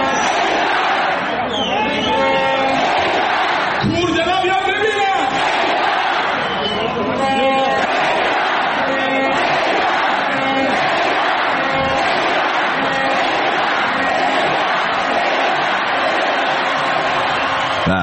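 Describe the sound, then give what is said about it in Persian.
A large stadium crowd of Padideh Mashhad football fans chants loudly and continuously in Icelandic style, many voices roaring together in unison with occasional sharper collective shouts rising above the steady din. “آها، میفرمایند سقوط نمیکنه چون طرفداراش ایسلندی تشویقش میکنن.”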